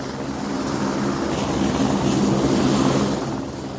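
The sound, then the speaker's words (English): A helicopter drones steadily overhead, its engine and rotor noise a loud, continuous rumble that swells slightly toward the end before easing off. No one speaks. “Amazing things, helicopters.”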